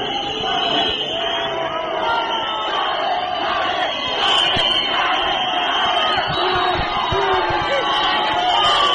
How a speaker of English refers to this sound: Tsvangirai arrived at his party's headquarters, located in the central business district, where hundreds of his supporters greeted him with wild cheers.